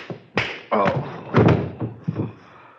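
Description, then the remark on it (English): A man, a prisoner kneeling on a baseball bat, is knocked off the bat and falls with a heavy thud, followed by several more dull bumps and knocks over a few seconds, fairly loud, with no talking. “You have knocked the poor fellow off the baseball bat.”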